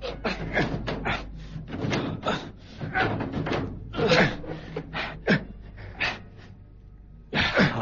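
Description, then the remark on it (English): A heavy safety deposit drawer is tugged open in a run of rough scraping pulls and irregular metallic knocks, ending with one more loud clunk. “Now give me a hand with the safety deposit drawer.”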